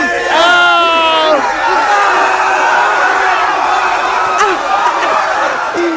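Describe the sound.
A man lets out a loud, strained scream at the start, his voice sliding in pitch, while a crowd of Eagles fans cheers and whoops around him in a dense, continuous roar as he bends down to eat horse dung off the ground.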